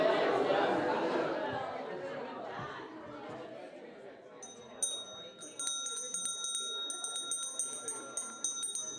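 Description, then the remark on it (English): A crowd murmurs and chatters, then a bright, high bell starts ringing in quick repeated strikes, continuing steadily over the fading voices until the end. “Oh, the bell.”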